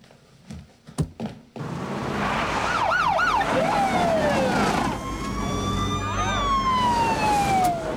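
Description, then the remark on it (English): Police sirens wail loudly in overlapping rising and falling tones, with rapid yelping bursts and long sweeping howls, as police cars and a SWAT team arrive and surround a house, after a few brief knocks at the start. “Police cars and the SWAT team arrive. They surround the house.”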